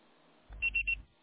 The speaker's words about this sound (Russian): Пожалуйста, попробуйте перезвонить позднее, или оставьте сообщение после звукового сигнала.